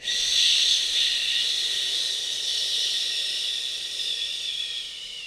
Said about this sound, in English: And again, inhale and exhale. Last time, guys. Inhale. And exhale.